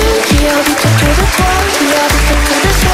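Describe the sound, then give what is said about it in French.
Loud, dense applause for a guest during a live morning show on the radio station Énergie, filling the whole stretch, mixed with an upbeat music bed with punchy bass notes underneath. “Vous pouvez applaudir”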